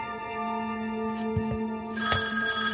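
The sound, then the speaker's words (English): Governor Rockefeller's telephone rings at 11 p.m. at his estate in Westchester County with a steady, buzzing electronic tone that grows brighter and louder partway through, while a few soft footsteps land underneath as he walks to the door. No one speaks. “Rockefeller begins walking to the door, but then his phone rings.”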